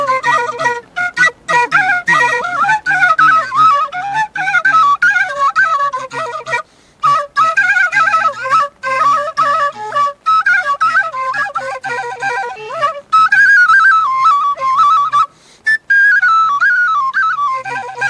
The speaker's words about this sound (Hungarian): Hát én hegedűn szoktam itt a táncházba, de az eső miatt most kölcsön kaptam egy furuját.